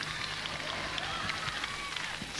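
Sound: audience clapping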